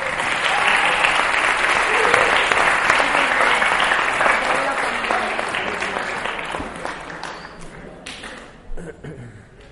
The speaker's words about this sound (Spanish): Le damos un aplauso a la familia.